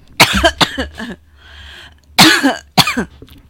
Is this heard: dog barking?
no